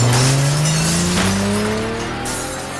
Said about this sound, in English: And look, here comes my husband now in the Ferrari.